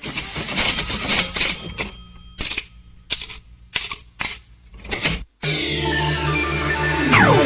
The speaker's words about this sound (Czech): Fantom. Autoalarm nove generacije.